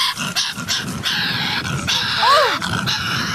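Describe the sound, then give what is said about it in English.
A cartoon Tasmanian devil's growl: a loud, raspy, frantic snarling that churns steadily for about three seconds, broken near the end by a short rising-and-falling whiny squeal. “But the thing is, listen to it again, and then listen to the actual cartoon character that it represents.”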